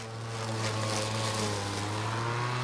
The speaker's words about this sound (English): She's a stay-at-home mom holding her toddler, watching her spouse mow the lawn outside.